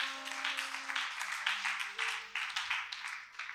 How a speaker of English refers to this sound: Clap for yourselves.